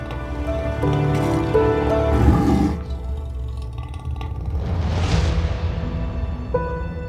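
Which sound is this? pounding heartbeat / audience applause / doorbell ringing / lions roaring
lions roaring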